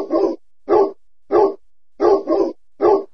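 A dog, Pirat, barks loudly six times in an uneven rhythm as it bursts into a vegetable garden, each bark a harsh, full-bodied burst, two of them coming in a quick double, with silence between.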